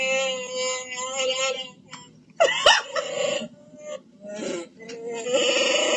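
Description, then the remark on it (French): A Chewbacca mask toy, worn by a woman in her car, gives out loud, raspy growling moans in several long bursts, the pitch wavering and sliding, with short pauses between them. “That's not me making that noise, it's the mask!”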